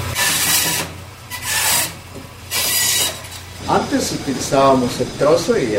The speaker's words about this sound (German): Este tipo de máquina es para cortar el hueso.